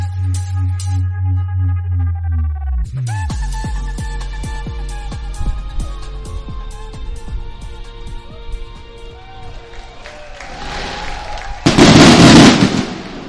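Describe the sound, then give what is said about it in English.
A low pulsing hum gives way to a rapid barrage of fireworks going off over the batter's eye in center field of a baseball stadium at a Friday game in 2023: sharp bangs, crackles and whistling streaks overlapping densely, ending in a loud, roaring burst of sizzling explosions. “As the fireworks go off over the batter's eye in center field, the Green Jackets get set to take on the Down East Wood Ducks here in their final Friday game of this 2023 season.”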